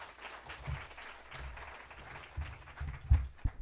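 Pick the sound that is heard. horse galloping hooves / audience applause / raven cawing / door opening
audience applause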